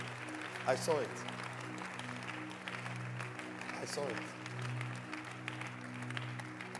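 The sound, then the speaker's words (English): An audience claps steadily for Bishop Dag, a dense wash of hand claps that carries through the whole stretch, with a sustained low droning tone underneath and a man's voice speaking briefly over it. “Clap your hands for Bishop Dag.”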